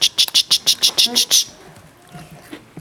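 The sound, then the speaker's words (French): A person mimics a cricket with about eight quick, evenly spaced high-pitched chirps, fairly loud, then falls quiet into faint background noise. “Attends, c'est incroyable, je me mets à faire comme le grillon.”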